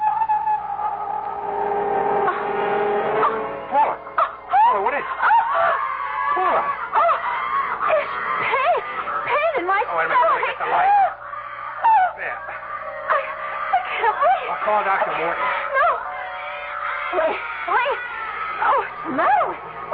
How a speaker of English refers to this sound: I'm going to kill that bird if it doesn't shut up.